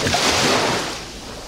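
A loud wash of ocean surf crashes close by, a broad hissing roar that swells briefly and then recedes and fades, with no voices over it.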